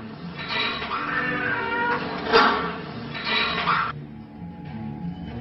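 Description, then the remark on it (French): A monkey in a German laboratory used for brain research lets out repeated shrill, wailing cries in three long, loud bursts, the middle one peaking sharply, before fading to a quieter background with no talking. “Étudier le cerveau d'un singe, ça ressemble aussi à ça.”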